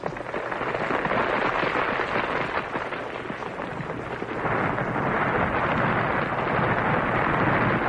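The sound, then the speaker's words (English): A house cracking apart in a storm as a fissure widens through its stones: a loud, continuous rumbling roar thick with splintering crackles, unbroken, swelling slightly partway through. “As I watched, the fissure widened, rending the house.”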